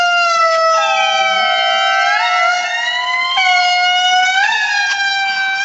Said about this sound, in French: Bon, il y a, comme vous l'aviez fait remarquer hors antenne, effectivement, le chant des lémuriens ressemble un peu à celui des baleines.